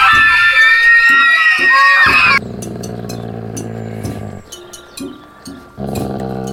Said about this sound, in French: Le son des cris de mes copines du foyer et de la classe.